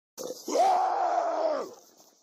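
A man lets out one loud, sustained scream to scare off a bear while making himself big, lasting over a second and held at a steady, strained pitch after a brief breathy intake, then breaking off abruptly into faint hiss.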